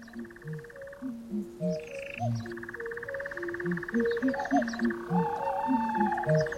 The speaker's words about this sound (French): Oui, l'histoire du jour, c'est celle d'un album de 13 titres, 13 comptines oniriques et hypnotiques pour chants d'oiseaux enregistrés dans les campagnes anglaises et mixés avec des instruments acoustiques et un soupçon de musique électronique.